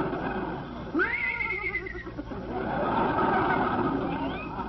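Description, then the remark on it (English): A person imitates a horse's neigh, giving one loud rising whinny that wavers and trails off, set against a steady, busy background rumble. “Well, if I have to work like a horse, I want to look like a horse.”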